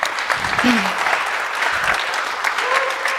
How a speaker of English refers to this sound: That is the end of that. We'll do a round of applause. Thank you very much.